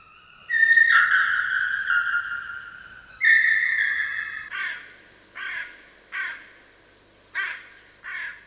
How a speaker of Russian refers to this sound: Кто это картавит над крышею дома? Ворона. Ее не узнать невозможно.